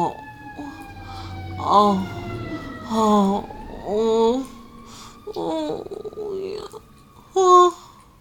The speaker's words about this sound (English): Sorry about the sirens.